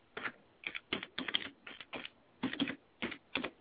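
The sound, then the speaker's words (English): Keys clatter on a computer keyboard in quick, uneven bursts of clicks while an account is being created, fairly quiet, with short pauses between clusters of keystrokes and no voices. “Can you see it typing?”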